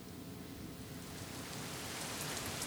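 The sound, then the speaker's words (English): A rain storm sound effect: steady, dense rainfall hisses continuously, a broad wash of patter on surfaces with a faint low rumble underneath, growing slightly louder toward the end. No voices. “It was a dark and stormy night as we got word that Wego the Wonder Dog was missing.”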